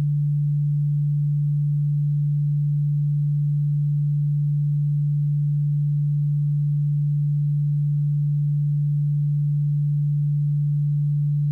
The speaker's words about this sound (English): Now, in your left ear, I am going to play a frequency of 146 Hz.